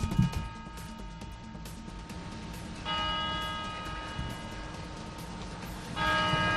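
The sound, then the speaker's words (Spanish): A clock tower bell in the Puerta del Sol, Madrid, strikes twice, about three seconds apart, each resonant chime ringing on and decaying slowly over a steady low rumble of city street noise. “No son las campanas de Nochevieja, es lo que tiene sacar el micrófono azul de COPE a la calle”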